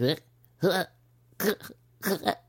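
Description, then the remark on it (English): A human voice imitates a cat retching before coughing up a hairball, making four short, strained, gagging bursts in an irregular rhythm, fairly loud, over a faint steady low hum. “And I know they're about to cough up a hairball, right? And they do.”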